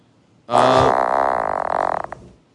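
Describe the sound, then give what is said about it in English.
A single loud frog croak, a long raspy, buzzing call that starts abruptly and rattles on for almost two seconds before fading out, with no voices over it. “Is that audio? That's the frog, yeah.”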